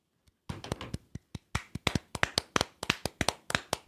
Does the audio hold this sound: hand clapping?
yes